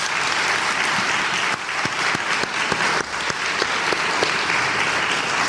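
Sustained audience applause, a dense wash of many hands clapping steadily with a few sharper individual claps standing out, holding at an even, fairly loud level throughout with no talking.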